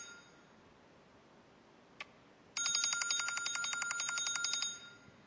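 An alarm clock rings with a rapid, continuous metallic bell trill for about two seconds, loud, preceded by a faint click, with no voices present.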